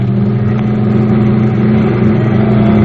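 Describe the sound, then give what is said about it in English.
A milk truck's engine roars loud, a heavy, steady mechanical drone with a constant low hum throughout, as it is driven hard at full throttle. No voices are heard. “Spot this milk truck a mile away.”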